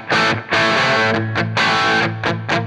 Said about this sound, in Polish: Zobaczcie, odkręcam gitary na maksa, wszystko mam na godzinę, nie na godzinę, 2 na 10, high treble i normal, więc takie brzmienie jest. Oczywiście będzie więcej przesteru.